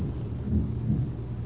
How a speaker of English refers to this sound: Who made that thunder then? It wasn't Bill Clinton. I don't think so.